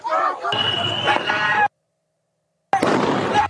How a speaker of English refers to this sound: And video provided by DHS appears to show fireworks were shot toward the agents as well. You can hear the sounds popping.